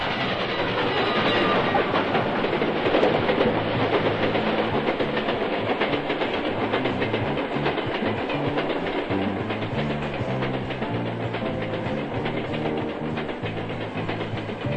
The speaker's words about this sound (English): You've stood at that crossing and watched that train pass, or you've seen it in motion pictures or television.